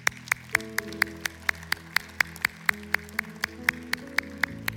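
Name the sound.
audience clapping hands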